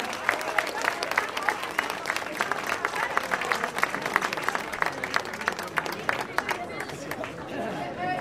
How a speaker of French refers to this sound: Félicitations à tout le monde d'être venu. Bonne main d'applaudissements.